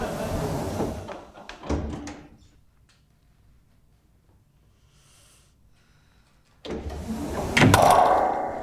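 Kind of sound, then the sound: household object, door opening or closing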